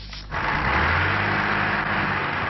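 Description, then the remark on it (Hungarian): A heavy truck stuck in snow in Sweden strains loudly as it tries to get free, its engine surging into a steady, rough roar after a brief quieter start, with a deep low rumble underneath. “Hóban elakadt kamionok próbálnak kijutni a szorult helyzetből Svédországban, szinte minden 100 méteren.”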